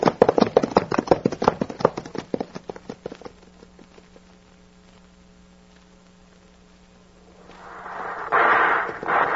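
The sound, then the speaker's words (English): Horses, one of them called Thunder, gallop in a rapid, drumming rush of hoofbeats that starts loud and quickly fades away, leaving a steady low hum before a rough burst of noise near the end. “Kick up that dust, Thunder. Head for that road. Come on, Thunder.”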